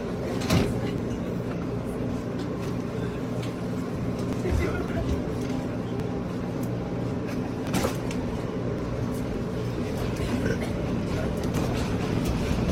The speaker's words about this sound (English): But for the sake of argument, let's look at a video recorded in a New York City subway cart.